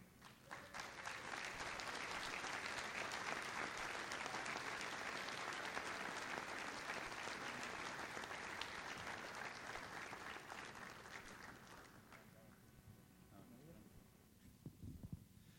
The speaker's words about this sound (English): Okay, at this time, let's give a show of applause to all of these leaders up here who have transitioned into the organizational leadership levels.